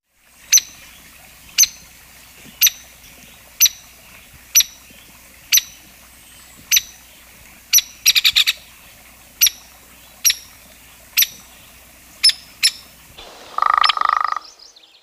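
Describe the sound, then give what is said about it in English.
Sharp, loud hairy woodpecker calls, single squeaky notes repeated about once a second, broken once by a quick rattling burst, with a short harsher call near the end. “Hairy woodpecker.”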